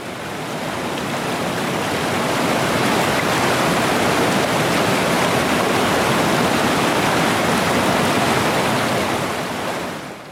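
A steady, dense rush of flowing river water fills the whole clip, swelling in after a moment and holding a constant roar with no voices before easing slightly at the end.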